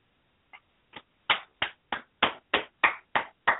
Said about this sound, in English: I'm clapping for you, Victor, because you called it right that the San Francisco 49ers would not make the playoffs, and Arizona would.